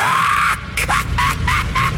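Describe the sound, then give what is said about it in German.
A loud, harsh screech from a hair spider creature, then rapid sputtering bursts as a vacuum cleaner with sparking motor wires coughs and spits on and off. “Der Staubsauger hustete, er spuckte. Das Licht im Beutel flackerte hell auf die Haarspinne, stieß einen kreischenden Laut aus und schrumpfte im hellen Schein der Funken zusammen.”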